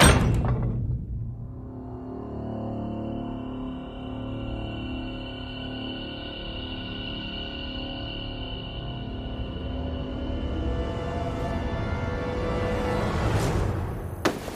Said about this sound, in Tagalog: Paghakbang ko sa labas ng pinto, pabagsak na sumara ang pintuan.